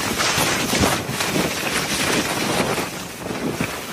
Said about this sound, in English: Authorities are calling this an extremely rare, life-threatening Santa Ana wind event. Gusts reaching 100 miles per hour.